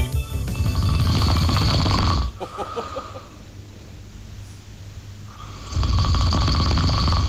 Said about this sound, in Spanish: quiero escuchar a ese... A ese búfalo, ¿no? A ese búfalo, a ver si es para tanto o no. Hay ronquidos, ¿eh? ¿Hay ronquidos?